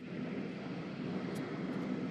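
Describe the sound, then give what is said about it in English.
A Boeing 777 jet airliner, arriving at an airport carrying aid from the Qatari Red Cross, roars steadily and loudly, a dense continuous whoosh that holds the same level throughout, with no voices. “There have been a number of military flights coming and going with aid, and this plane that has arrived here, this Boeing 777, also had aid on it from the Qatari Red Cross.”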